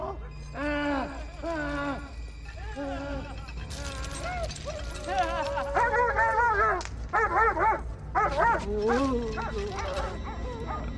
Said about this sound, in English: And so that, you know, everybody starts going crazy. Dogs start barking. So why was there dogs in a mental home? I don't know.